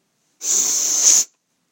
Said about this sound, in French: Le roi renifle. Goutte du bout des lèvres. Il mâchouille. Ferme les yeux et renifle encore une fois.